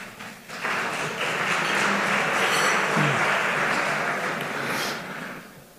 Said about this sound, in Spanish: Un aplauso para él, por favor.